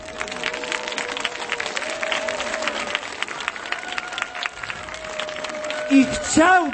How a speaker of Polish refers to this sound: obwieszczę wam wszystkim radosną wiadomość, że w tym roku powstało kolejne podwórkowe kółko różańcowe dzieci w Seattle, w Ameryce, w Stanach Zjednoczonych, Ameryki Północnej, na zachodnim wybrzeżu. Brawa dla nich.